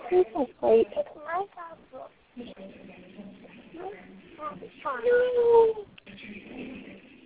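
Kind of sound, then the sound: animal, cat meowing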